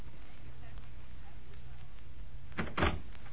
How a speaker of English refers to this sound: Oh, just a minute. Is that the front door? Yes. Yes, it's the front door.